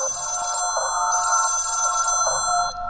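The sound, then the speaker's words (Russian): A telephone rings in continuous electronic bursts, bright high tones pulsing on and off about every second, loud and steady with no voices over it. “Из ночи к свету, но нет, звонок молчания.”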